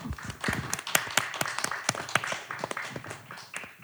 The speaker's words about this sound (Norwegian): Gi en applaus til Ragnar.